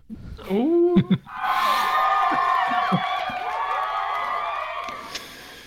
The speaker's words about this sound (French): C'est Poparazzi. Ah, la foule en délire.